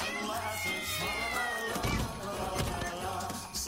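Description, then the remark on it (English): Several cat meows with rising and falling pitch sound out over a dense, busy background of music-like sound, fairly loud and continuous throughout, in a Christmas advertisement for Kitten Cadoodles cat food. “Keep those cats distracted with their bellies full of kitten cadoodles.”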